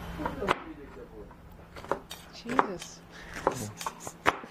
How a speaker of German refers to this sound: And looking at him chopping stuff.